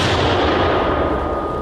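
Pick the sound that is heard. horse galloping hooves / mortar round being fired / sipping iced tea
mortar round being fired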